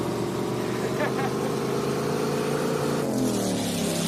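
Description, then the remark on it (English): A motorboat engine drones loudly and steadily, its pitch shifting slightly as it revs, with a continuous rumbling hum throughout and no clear speech over it. “Stop the boat! Idiot! Stop the boat! Where are the brakes?”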